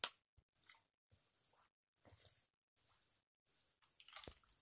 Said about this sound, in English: So hold on, I'm going to take a drink right now. I'm not trying to make this an ASMR podcast or anything, but my throat is really dry right now.